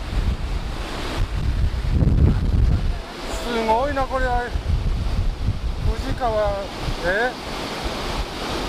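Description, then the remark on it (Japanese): A steady, loud roar of the rushing Fuji River in Japan, seen from above at the site of an old boat landing, with gusty low rumbling underneath and people talking briefly over the flow. “すごいね、この川の流れ。”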